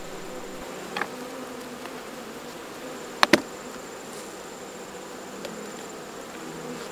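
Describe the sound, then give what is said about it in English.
A steady, dense hum of many honeybees buzzing after their hive frames were shaken out in the grass, broken by a couple of sharp clicks or knocks around the middle, with no one speaking. “you can hear them buzzing.”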